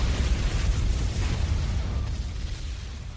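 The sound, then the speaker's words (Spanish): A car bomb explosion in the interior car park of a Barcelona hypermarket, a parked vehicle loaded with 200 kilos of amonal, in June 1987, heard as a loud, deep roaring rumble with heavy low-end boom that hangs in the air and slowly fades over a few seconds, with no voices. “Esa es la fecha y la hora en la que un vehículo estacionado en el parking interior de Hipercor, en Barcelona, y cargado con 200 kilos de amonal, hizo explosión.”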